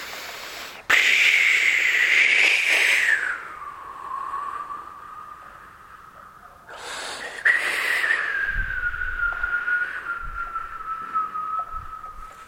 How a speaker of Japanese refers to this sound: 風が吹いて岩だらけの野原がわさわさ音を立てます。